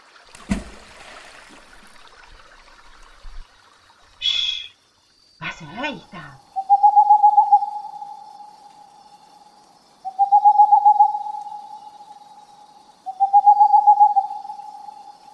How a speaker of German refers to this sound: Eine Eule.